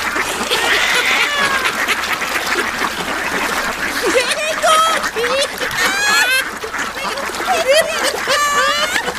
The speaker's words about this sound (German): Etwa 3 Dutzend Schnäbel hatten sich in ihre Richtung gewandt und flatterten einen Wimpernschlag später schimpfend auf sie zu